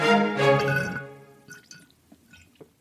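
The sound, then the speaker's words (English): A loud, gurgling slurp through a straw pulling up the last of a daily greens drink from Equilibria, followed by a few faint wet sputters and small drips as the cup runs dry. “You hear that slurping, plant friends? That is me on my dregs of my daily dose of greens, courtesy of today's sponsor, Equilibria.”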